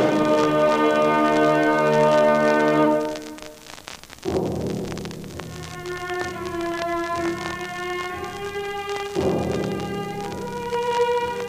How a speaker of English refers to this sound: A city in Europe 600 years ago, a church bell tolls.